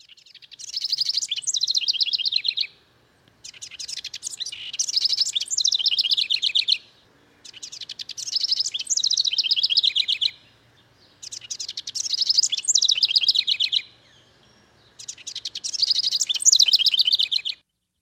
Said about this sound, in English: So that's the house wren. That's the bird that might be waking you up at 4:30 or 4:45 in the morning.